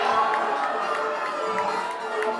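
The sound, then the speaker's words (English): A concert crowd cheers and screams in a dense, steady roar that holds at an even loudness, with brief higher shouts poking out of the wash of voices. “scream, man. Make some fucking noise.”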